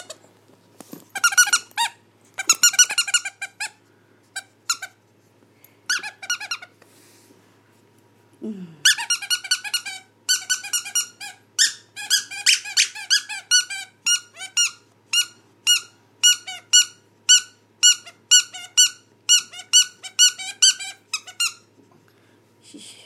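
A squeaky toy is squeezed over and over up close, loud bursts of high squeaks coming in quick irregular runs, then a steady rapid series near the end, with a low snuffle or grunt partway through.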